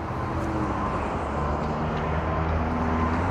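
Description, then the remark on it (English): A steady, throaty engine drone with a low rumbling growl fills the whole stretch, from a passing car fitted with a loud aftermarket muffler. No voices are heard. “I know those are mufflers. And something that them kids put on their car to make all that noise.”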